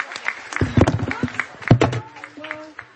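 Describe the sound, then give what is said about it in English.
A short burst of audience applause for the scholarship winners as a group, dense overlapping claps swelling for a second or so and then thinning out, with murmuring voices mixed in. “Let's give all the scholarship winners another round of applause as a group.”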